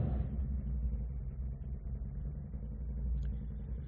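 A passing motorcycle engine rumbles outside, a deep, steady growl that holds fairly loud for a few seconds before easing off slightly, with no voices over it.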